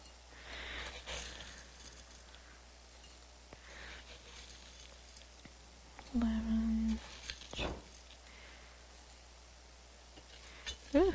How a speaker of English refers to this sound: So I'm just going to put about 18 scoops of bath salt into this bowl that I have here that I've dedicated to my bath salts, because it's got a little bit of a chip in it and it's just not fit for eating out of.